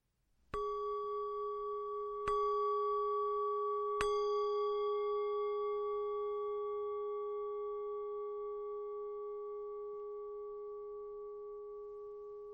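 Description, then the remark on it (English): Three strikes of a meditation bell marking the beginning of a meditation, evenly spaced a couple of seconds apart, each adding to a sustained, pure ringing tone that layers and slowly fades over the following seconds with no speech. “I will ring three bells to mark the beginning, a bell to mark each stage, and three bells to mark the end of the meditation.”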